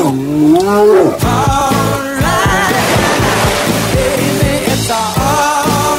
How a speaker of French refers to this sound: Ne bougez pas, il y a un ours derrière nous.